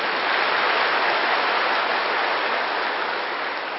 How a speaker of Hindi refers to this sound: सारी सभा देखो, वाह, अपने लिए भी ताली बजा लो।